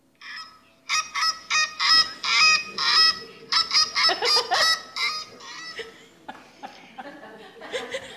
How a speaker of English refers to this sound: It's a Canadian goose. They fly up over the lake and everything, and we enjoy watching them, and we enjoy them coming down to land on the lake.